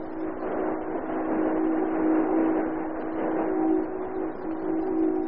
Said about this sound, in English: Listen, the gang's boat here.